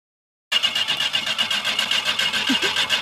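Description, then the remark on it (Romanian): After a brief silence, a car engine is cranked and turns over, a fairly loud, steady rasping roar with a rapid rhythmic pulse that continues to the end, with no voices. “Da, mă purnește, mă!”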